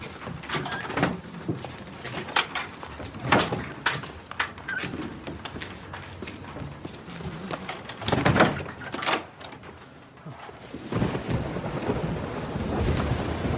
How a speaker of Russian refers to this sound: Платов выходит на улицу. Идет дождь.